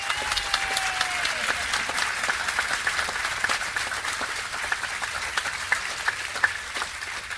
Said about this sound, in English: until the end to thank three people for sure that absolutely deserve an awful lot of credit, and they deserve the love from our hearts to be shown by our applause.